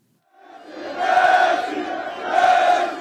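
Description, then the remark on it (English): A crowd of around 300 fans outside Le Bourget airport in Paris roars and chants soccer star Lionel Messi's name in unison as he arrives, the loud massed voices swelling in two surges with a sustained, rhythmic shouting quality and no silence in between. “Around 300 fans chanted the soccer icon's name outside the Le Bourget airport Tuesday afternoon.”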